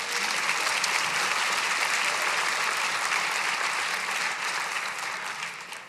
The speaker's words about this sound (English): Feel free to applaud.